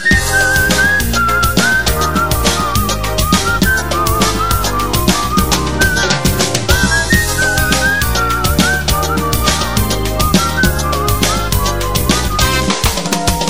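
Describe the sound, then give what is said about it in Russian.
A person whistles a bright, lilting melody over a loud, full band accompaniment with steady drums. The whistled tune carries clearly above the music throughout, with no voices. “Но не забыл Баку родной и мой веселый бакинский свист.”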